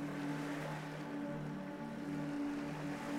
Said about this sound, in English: You can hear the sound of the waves washing ashore as you breathe in deeply and smell the salty air here by the ocean.